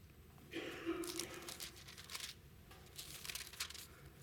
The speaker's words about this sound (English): One of the beautiful sounds in a church is the sound of pages turning. And as more and more people, and I do this, use their Bible as how they switch to a new passage, you don't get to hear that as much anymore.